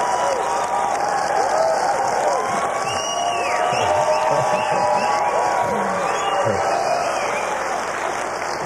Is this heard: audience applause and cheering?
yes